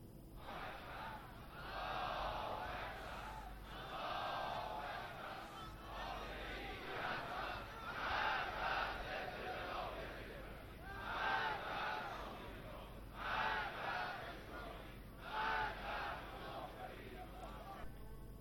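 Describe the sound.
A large outdoor crowd of protesters in Iran rallies to denounce the desecration of sanctities and acts of vandalism during riots, voices merging into a steady roar with rising shouts and chanted bursts, dense and continuous throughout.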